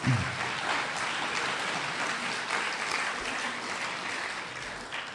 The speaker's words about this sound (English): You didn't know that you were going to be applauding a Texas Republican before tonight.